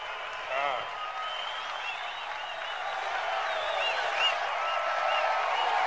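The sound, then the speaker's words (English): A crowd cheers in a steady, dense roar, with shouts and whoops rising above it throughout and swelling slightly louder toward the end, as Hamilton is presented by the Senna Family Trust with one of Senna's race helmets. “A lot of cheering there, obviously.”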